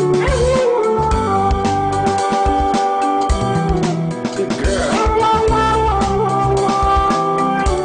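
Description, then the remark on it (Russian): A dog's howl pitch-corrected into a song, its voice jumping in robotic stepped notes over a steady beat and bassline, loud and continuous throughout. “Собака, которая поет под автотюном.”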